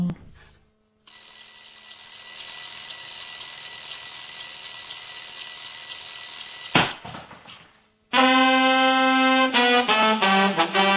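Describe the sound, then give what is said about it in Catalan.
An alarm clock rings loudly and continuously for several seconds, then cuts off with a sharp clatter. After a short pause, a brighter, pulsing electronic alarm tone starts. No one speaks. “Jo estava pensant ara mateix, per això m'he quedat en blanc, que ojalà algun dia pugui fer això jo amb el meu despertador.”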